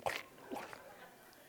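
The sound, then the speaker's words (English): A person imitates a dog lapping water with a few quick, wet mouth smacks and slurps, fairly soft, the first burst sharpest, then trailing off into quiet. “And he says, everyone who gets down on their hands and knees and starts lapping like a dog.”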